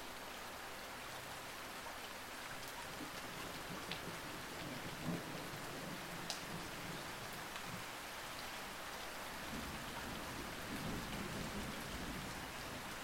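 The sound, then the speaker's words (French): Steady rain falls continuously, a dense even hiss with scattered droplet taps and a faint low rumble beneath, no voices present. “À présent, concentrez-vous sur le rythme simple et répétitif de la pluie qui tombe et laissez-le vous apaiser et calmer vos émotions.”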